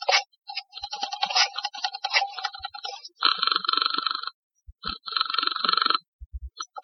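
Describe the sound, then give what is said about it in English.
A telephone is dialed to call police headquarters with a run of quick, uneven clicks, then rings twice in separate bursts of about a second each, fairly loud, with no voices. “And then I went to the phone.”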